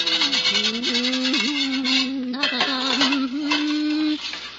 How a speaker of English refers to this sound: As our story begins, we find Teresa busily at work in the kitchen, scrubbing some pots, the remnants of the evening meal.